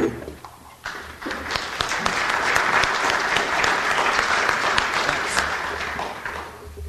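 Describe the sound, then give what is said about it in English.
An audience claps steadily for a speaker who has just been introduced as an attorney and an expert. The applause is a dense wash of many hands that swells after the first second and holds evenly loud before tapering slightly at the end. No one speaks over it. “It's always nice when you're introduced as an attorney and you get applause anyway, so I thank you for that.”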